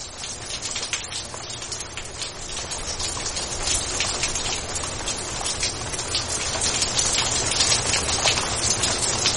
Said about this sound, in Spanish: Y sigue lloviendo.